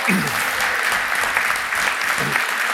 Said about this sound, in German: Jetzt gibt dem Ansgar mal einen fetten Applaus. Der ist hier extra heute Morgen noch hergefahren, damit das funktioniert.